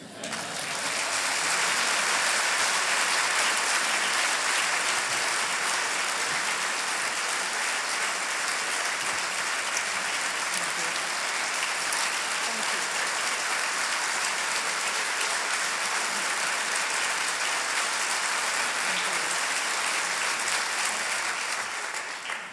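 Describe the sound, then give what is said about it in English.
A large Cornell audience applauds steadily for over twenty seconds, welcoming President Martha Pollack for a progress report; a dense, even wash of clapping that swells in at the start and holds at full strength before tapering slightly at the end. “You gotta love a Cornell crowd.”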